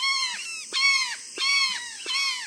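A flock of about a dozen brown jays, chocolate-coloured birds nearly the size of crows, calls raucously in the Mexican countryside: four loud, harsh, nasal screams in quick succession, each with a slight downward bend at the end, with no voices.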